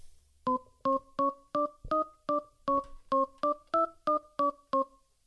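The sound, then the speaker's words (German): The telephone number of the police being dialed: about a dozen short keypad tones beep in quick, even succession, clear, with no one talking. “Entschuldigung, ich müsste mal richtig wählen.”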